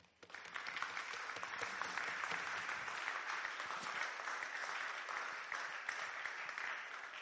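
A crowd applauds steadily, a dense wash of many hands clapping that starts abruptly and holds at an even, loud level for several seconds without voices.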